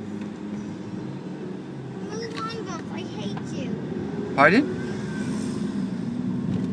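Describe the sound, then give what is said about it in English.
A bus engine rumbles steadily beside a car in city traffic, a low continuous drone that persists throughout while people talk briefly over it. “move on, bus, I hate you.”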